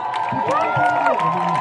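A crowd at a Pride parade in Livorno applauds and cheers the mayor, Stefano Minerva. Steady dense clapping mixed with rising whoops and shouting voices, loud and continuous for the short stretch.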